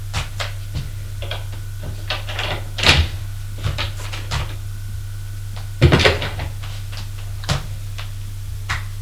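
A door being opened: a series of sharp clicks and rattles of the handle and latch, with two louder clunks, all over a steady low electrical hum.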